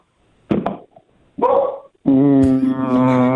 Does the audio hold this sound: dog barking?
yes